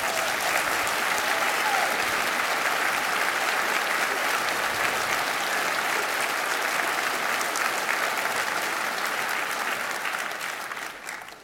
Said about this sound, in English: If you don't clap for anything else, please clap for that.